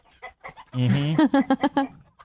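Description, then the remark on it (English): A voice imitates a chicken, with a drawn-out squawk followed by a quick run of five or six rhythmic clucks, loud, with a few short vocal sounds before it. “You should have a chicken farm.”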